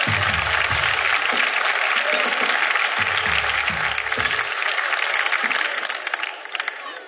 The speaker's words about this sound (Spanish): Un fuerte aplauso para todos ellos, por favor.